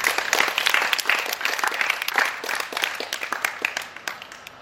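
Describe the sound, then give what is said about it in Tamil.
An audience claps steadily, a dense patter of many hands that stays loud throughout, then begins to thin and soften toward the end. “அது நல்ல கைத்தட்டு.”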